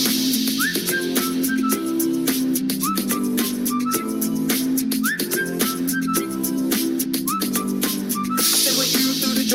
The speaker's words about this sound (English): Can you blow that whistle? You say whistle, we say.